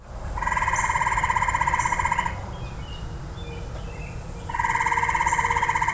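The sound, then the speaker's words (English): A gray tree frog gives two loud, musical trills, each lasting about two seconds with a short pause between, over a steady hiss of night ambience. No one speaks. “And that was the call of a gray tree frog.”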